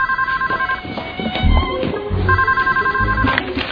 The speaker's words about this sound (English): Betty, phone?